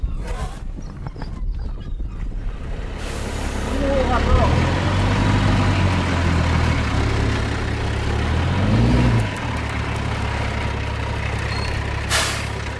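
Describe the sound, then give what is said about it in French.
The heavy diesel engine of a large truck transporting compost rumbles steadily, its low drone rising and falling as it revs, with a brief hiss of released air near the end. “Avec ce gros camion ? Là, je transporte du compost.”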